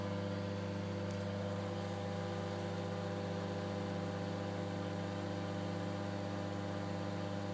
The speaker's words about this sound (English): Right. Now let's let the microwave do its worst, I suppose. Here we go. Door closed. The door closed because I never knew the door could just close. Here we go. 3 minutes 59 seconds.